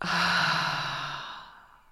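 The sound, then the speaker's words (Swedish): A long, deep breath pushed out through the mouth after breathing in through the nose during a guided breathing exercise, a breathy airy whoosh with a slight voiced tone that fades away over about a second and a half, alone. “Och släpp ut genom munnen.”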